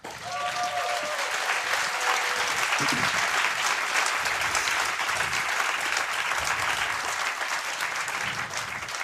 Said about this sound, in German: Einen großen Applaus für Tim und Linus.